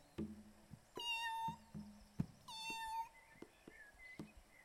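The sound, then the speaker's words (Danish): A cat meows twice, two drawn-out, clear calls about a second apart, fairly loud, with a few soft knocks and low thumps around them and no talking. “Det er en kat.”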